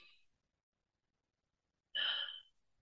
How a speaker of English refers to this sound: So I'm breathing with you right now. And it's good. It's good to just, take a breath, especially if we feel stressed or anxious.